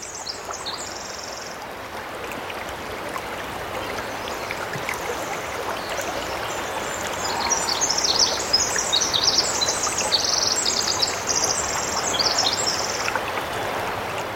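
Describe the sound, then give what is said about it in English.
Steady rushing of a stream fills a rainforest scene on Chichagof Island, 65 miles northwest of Juneau in the Tongass National Forest, while high chirping bird calls flutter over the water noise in bursts, clearest toward the middle and end. “This is a little rainforest. This is a Chichagof Island, 65 miles northwest of Juneau in the Tongass National Forest.”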